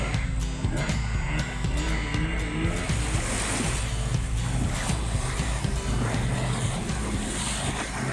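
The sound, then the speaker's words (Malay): A clinic boat carrying vaccines and health workers travels along a shallow river in Mukim Pensiangan, its steady motor hum blending with continuous rushing, splashing water, loud and unbroken throughout with no voices. “Baik, ini kami sekali lagi terpaksa berhenti dan semua terpaksa menuruni bot kerana laluan untuk bot masih lagi cetek, dan ketika ini jurumudi sedang mencantas dahan-dahan pokok dan juga lalang yang berada di sekeliling untuk memudahkan kami”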